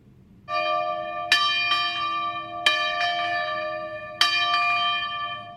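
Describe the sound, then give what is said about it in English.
Church bells ring out clearly and loudly at a school in Spain that teaches church bell ringing, with several strikes at irregular intervals over a sustained, shimmering hum that lingers between each peal. “The school teaches the lost art of church bell ringing.”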